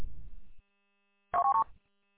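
A low rumbling murmur fades out, then after a pause a short burst of dual-tone beeps plays, three quick stepped tones of a radio ID data burst for WA8MAC, loud and clipped, ending abruptly.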